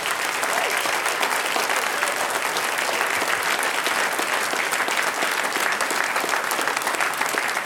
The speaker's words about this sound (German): Da geht ein kräftiger Applaus, glaube ich, drauf.